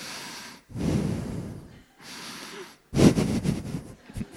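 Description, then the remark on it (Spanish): A voice imitates the snoring of someone sitting and dozing with three rough, raspy snorts, each drawn out for about a second; the last is louder and breaks into choppy, sputtering bursts. No words are spoken. “A veces alguien está sentado, está roncando.”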